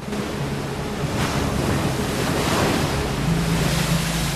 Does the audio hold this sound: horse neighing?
no